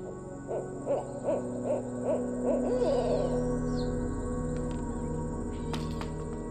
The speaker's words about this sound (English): I would say that it sounds probably crazy to suggest that an owl was visiting me.